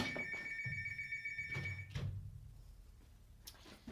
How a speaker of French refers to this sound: Alors, zut, je suis dans le studio, il y a le téléphone qui sonne, ça me dérange. Donc, 2 secondes, je vais arranger ça, je reviens tout de suite.